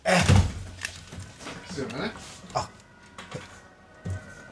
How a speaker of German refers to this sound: Warte, ich mache hier mal das Fenster auf. Warte mal, ich mache auch mal Fenster auf. Mal gucken, was man hier hört.